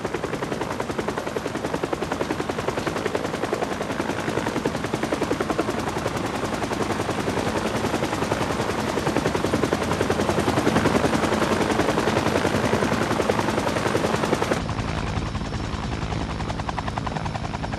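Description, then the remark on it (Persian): Loud, continuous helicopter rotor noise in flight, on the way to San Francisco General Hospital: a dense rhythmic thumping with engine whine that stays steady throughout, easing slightly near the end. No one speaks. “میفهمم که این سر و صداها اذیتت میکنه. البته واسه همه آزاردهنده است. من هلیکوپتر دوست دارم.”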